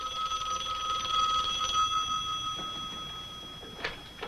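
A telephone rings with a long-distance call from Washington, a steady, tonal bell-like tone sustained over a couple of seconds, then fading, followed by a few faint knocks or clicks.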